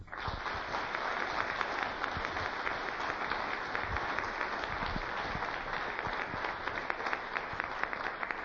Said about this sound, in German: Und ich denke, dafür haben sie einen kleinen Applaus verdient.